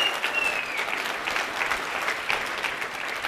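An audience applauds, a dense, steady wash of many hands clapping that holds at an even, fairly loud level throughout, with a faint whistle-like tone early on.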